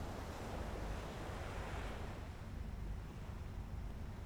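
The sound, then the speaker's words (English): Sea waves lap steadily at the shore in a continuous wash of surf, with a soft rushing swell that eases slightly toward the end, no voices present. “Then you walk to the edge of the sea, where the waves tumble into foamy wavelets that lap the shore.”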